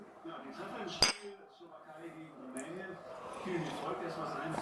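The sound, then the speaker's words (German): A single bright clink of glasses of iced tea touching in a toast at a meal, sharp, rings out briefly while people talk quietly throughout. “Wollen wir anstoßen?”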